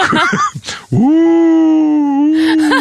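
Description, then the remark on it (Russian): A person imitates a wolf howl: after a moment of talk, one loud, sustained vocal howl rises quickly, then holds a steady, slightly wavering pitch for nearly two seconds. “Или как вой волков.”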